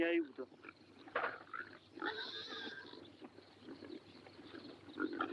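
pigs grunting

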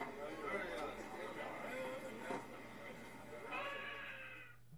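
cat meowing

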